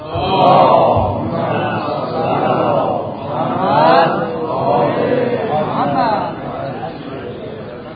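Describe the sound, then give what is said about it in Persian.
A large crowd recites salawat together in unison, a steady chanted murmur of many voices rising and falling in rhythmic phrases, echoing. “یه صلواتی خلق کنید.”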